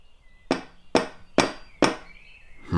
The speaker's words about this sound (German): Wo ist die Klingel? Es gibt keine. Dann werden wir mal den Türklopfer testen. Was für ein riesen Eisenring.